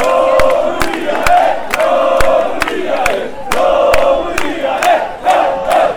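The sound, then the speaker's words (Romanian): A loud crowd of Romanian national team fans in Parcul Gării, Constanța, roars and chants in celebration after one of Romania's three goals against Ukraine at the European Football Championship, with sharp bangs or claps punctuating the steady wall of cheering throughout. “Aceasta a fost atmosfera din parcul Gării din Constanța după fiecare dintre cele 3 goluri pe care România le-a înscris”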